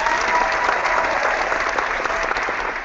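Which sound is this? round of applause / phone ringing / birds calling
round of applause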